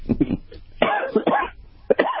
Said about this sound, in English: Sorry, you made me cough.